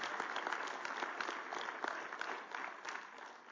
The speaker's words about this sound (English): Thank you guys up there doing that good stuff. And let's give our praise team a good hand clap. Great job.